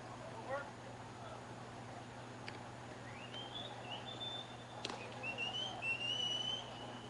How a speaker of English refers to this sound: And somebody's whistling. It's like a little Tweety Bird. He's down behind home plate.